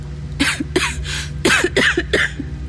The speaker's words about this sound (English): Even a little whisper made me start coughing. My coughs echoed back at me from far too close. Okay. I'm in the cave.